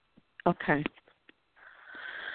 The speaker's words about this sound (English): I hear you breathing over there, too. So we keep using that breath to help the lips.